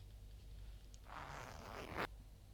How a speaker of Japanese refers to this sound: ズボンのチャック下ろしちゃおっか。